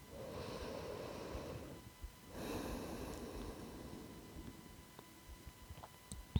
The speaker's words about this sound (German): Und jetzt atmest du durch beide Nasenlöcher ein und aus. Und merk mal den Unterschied, was für ein Wahnsinnsunterschied das ist, wenn du durch beide Nasenlöcher atmen kannst, wie erleichternd das ist.